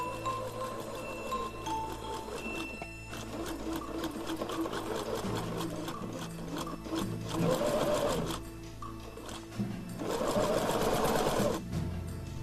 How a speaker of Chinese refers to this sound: 在油灯下，亚历山大又拿出了他那本心爱的图画书，翻开来放在一把椅子上，再把妈妈的毛皮大衣剪成一片一片的，然后就照着图画书上大熊的样子在缝纫机上忙活起来。